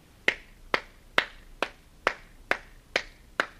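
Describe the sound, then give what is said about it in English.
Eight crisp hand claps at a steady, even tempo, each equally loud with no accents, demonstrating an unaccented musical beat, with no voices. “I'm going to ask you to clap with me to show how this works.”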